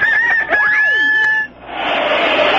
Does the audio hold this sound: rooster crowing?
yes